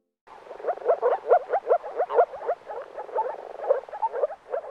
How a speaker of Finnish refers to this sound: Tunnetko sammakoiden äänet? Jos et tunne, kannattaa opetella. Viitasammakon ääni on hauskasti pulputtava, tavallisen sammakon on hyrisevän kurnuttava. Rupikonen ääni kuulostaa taas melko karkealta.